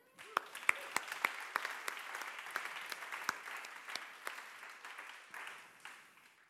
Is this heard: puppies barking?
no